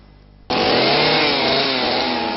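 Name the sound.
chainsaw running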